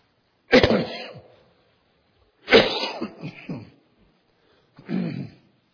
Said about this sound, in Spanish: Ustedes van a perdonar, voy a toser y con el micrófono la tos va a sonar más fuerte de lo que actualmente es. Pero de todos modos está controlado.